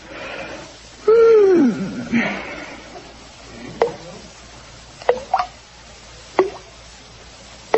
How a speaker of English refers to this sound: Oh, goodness, the faucet in the bathroom's dripping. I'll never fall asleep now.